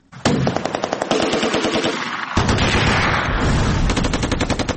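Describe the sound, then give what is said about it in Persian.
Sustained bursts of automatic gunfire rattle almost continuously, dense rapid shots overlapping from more than one weapon, loud, with a brief dip before the firing surges again; an archival recording of mujahideen groups entering Kabul, Afghanistan, on 8 Sawr 1371, firing in fighting among groups and in victory celebration. “بخشی از تیراندازی ها از جنگ میان گروه های مختلف مجاهدین حکایت می کرد و بخش دیگر هم از شادیانه به مناسبت پیروزی.”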